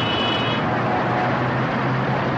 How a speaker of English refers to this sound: Not perfect silence. In Saudi Arabia's capital, Riyadh, there is also the din of traffic, plying its way around a ribbon of highways that would not be out of place in a new conurbation in the American Sun Belt.